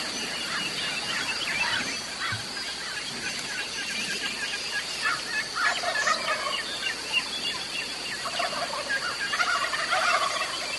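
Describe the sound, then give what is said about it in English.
Wild turkeys calling from the roost as they wake and fly down: scratchy, fairly high hen calls, higher pitched than eastern hens, overlap with bursts of gobbling from several birds over a steady outdoor hiss, with no one speaking. “Hear the hens? They're a little scratchier, a little higher pitched than our eastern hens, and I tuned my calls that way for this hunt, and it worked on them.”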